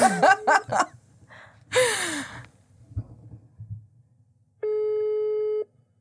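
A single steady, mid-pitched phone ringing tone sounds for about a second during a call, preceded by breathy sighs and gasps over a faint low hum.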